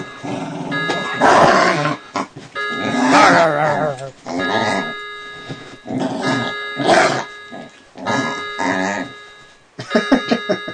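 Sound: dog barking and growling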